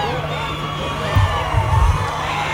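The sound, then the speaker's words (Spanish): A large outdoor crowd at the Festival de la Independencia in Talca shouts and cheers continuously, a dense wash of many voices with a few louder whoops rising out of the roar near the middle. “No todos los días se puede gritar en el Festival de la Independencia de Talca, no hay que perderse ese momento.”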